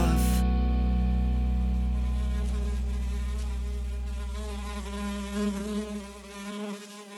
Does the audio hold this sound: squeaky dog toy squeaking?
no